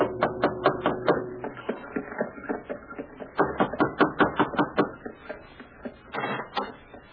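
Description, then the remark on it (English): Someone knocks on a door of a house in a fashionable part of town: quick sharp raps come in three bursts with short pauses between them, moderately loud and crisp, and no one speaks. “Gave the driver his fare, received a wink in return, and knocked on the door.”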